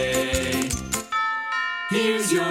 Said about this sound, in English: Here's your mail today. Ding dong.